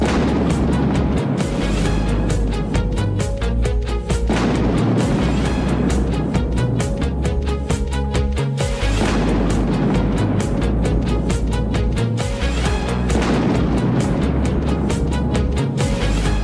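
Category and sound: nature, thunder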